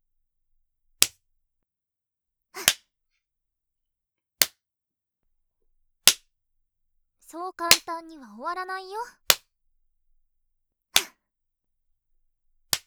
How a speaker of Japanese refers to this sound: 悪い子はお尻ペンペンです。